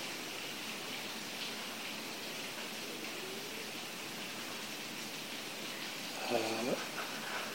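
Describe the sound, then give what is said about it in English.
Steady rain falls in a dense, even hiss that fills the whole stretch, with a brief tonal call or voice-like sound rising over it near the end. “The rain preaches the Dharma.”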